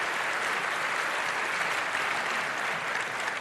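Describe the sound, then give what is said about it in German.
Steady audience applause thanking a speaker after a talk fills the whole stretch, a dense, even wash of many hands clapping at constant loudness with no talking over it. “Eine Runde Applaus bitte nochmal.”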